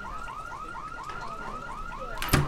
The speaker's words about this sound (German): In den engen Straßen des Wohnblocks hört man nur wenige Stimmen und den Alarm eines Mopeds.